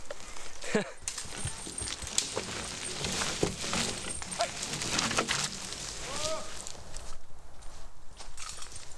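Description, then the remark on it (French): A horse walks at a steady pace through a forest, its hooves clip-clopping in an irregular rhythm over soft ground outdoors, with a few bird calls and faint rustling around it. “Au niveau des contraintes du cheval, il y a quand même la distance à prendre en compte parce que c'est un être vivant, donc il marche.”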